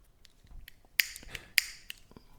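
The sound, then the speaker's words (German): Castanets clicking in a loose, irregular pattern: sharp, dry, bright clicks, two of them noticeably louder than the rest, with no voices over them. “Percussion. Kastagnetten waren das.”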